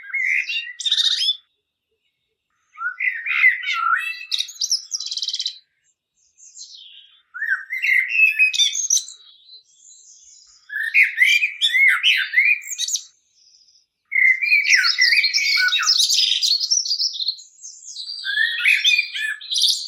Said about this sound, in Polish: A teraz posłuchajmy pięknego śpiewu kosa jeszcze raz.